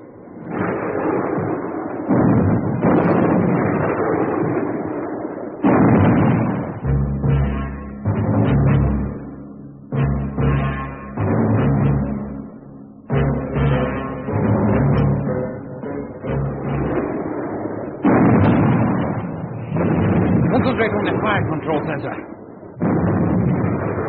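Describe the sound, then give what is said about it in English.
Ship guns fire in battle: heavy, booming blasts go off again and again in loud, irregular bursts over a constant rumbling roar, with barely a pause across the whole stretch. “Up, battle flag! Down, gun shields! Commence firing!”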